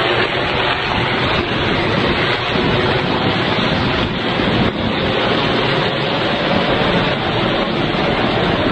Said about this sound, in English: Now that would definitely be the police chopper, because they're the ones with the spotlights going.